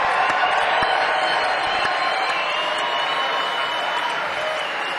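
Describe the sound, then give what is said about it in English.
A crowd applauds steadily for about five seconds to welcome a band's 5-string banjo player, a dense wash of many hands clapping at an even, loud level, with a few faint cheers mixed in. “Make him feel welcome. Let's give him a clap.”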